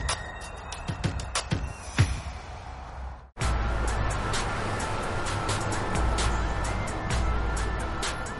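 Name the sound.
bus driving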